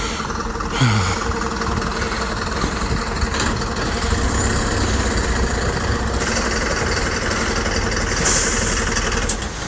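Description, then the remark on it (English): A UPS delivery van's engine idles on a road, with a steady, low rumbling drone that holds constant for the whole stretch, with a faint mechanical rattle and a few small clicks over it. “And now I can't cross the road because there's a UPS van in the way.”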